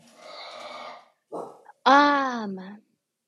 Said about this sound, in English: They're bad dogs, I tell you what. They're good dogs, but they're bad.